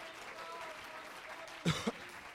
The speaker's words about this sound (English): Let's clap our hands into it.